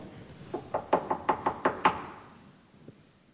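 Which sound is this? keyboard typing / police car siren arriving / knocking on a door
knocking on a door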